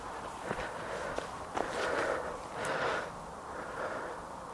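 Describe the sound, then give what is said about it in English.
Heavy, rhythmic panting with loud breaths in and out after walking up a really steep hill in a heavily wooded part of the Glens Hills, at 6:45 in the evening on Saturday, 10 August. A few soft footstep crunches sound on the ground. “I'm out of breath because I've been walking up a really steep hill. So give the all the breathing noises.”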